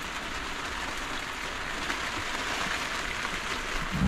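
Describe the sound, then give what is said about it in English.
Heavy rain pours down at Refuge Cove in a steady, dense hiss, drumming continuously on a surface with no pauses or other sounds. “It's pouring rain here in Refuge Cove.”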